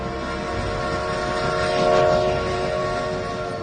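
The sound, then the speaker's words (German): A steam train rumbles past with a steady mechanical roar and sustained whistling tones, swelling louder as it draws close midway, then easing off slightly, with no voices. “Unser Vampir 1894 kam mit der Eisenbahn.”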